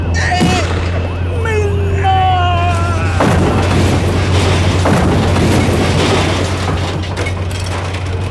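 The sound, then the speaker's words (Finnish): A loud taxi crash in Lappeenranta, Finland, during a hijacking attempt: rising squeals give way to a heavy booming impact, followed by another jolt and a sustained roar of crunching, grinding debris, all intense. “Helvetti, mikä rysäys!”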